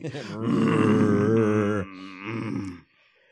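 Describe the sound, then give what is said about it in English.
A dog growls low and steadily, like a revving engine, in one long rumbling burst and then a shorter second one before falling quiet. “I thought there was a car outside revving its engine, but it's this fucking dog.”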